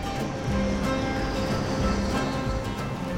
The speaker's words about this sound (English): An airplane flies.